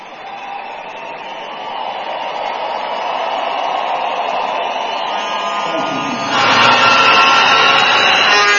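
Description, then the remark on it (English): A large church audience claps continuously, putting their hands together to receive God's word, in a dense, steady wash of applause that swells louder near the end. No voices stand out. “I'm sure you'd like to clap better, stronger, and louder for Jesus.”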